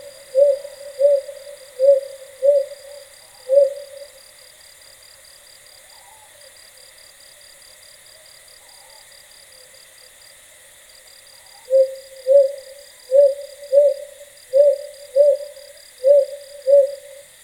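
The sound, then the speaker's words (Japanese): Ryukyu green pigeons in Okinawa call back and forth at night over rural hills, in rhythmic series of soft, mid-pitched hooting notes, a run of six, a quiet gap, then another run of seven, over a steady hum of night insects. “琉球青葉族の鳴き合う声が夜の里山に流れていきます。”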